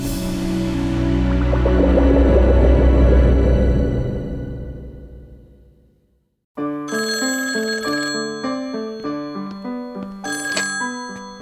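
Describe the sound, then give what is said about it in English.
A loud, dense swell of sound fades away into a brief silence, then a telephone rings with a call from Mr. Hyde in a rapid, warbling trill that repeats steadily until the end. “I hate to interrupt you while you're practicing, Lucille, but Mr. Hyde is on the phone.”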